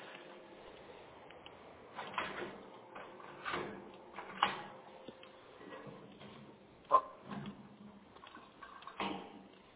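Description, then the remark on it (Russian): A large, heavy lock mechanism clicks and clunks through a series of sharp metallic ticks at uneven intervals, like clockwork, with a faint mechanical whir in the background and no talking. “Замок. Сейчас я тоже крякну. Такой замочище, просто часы.”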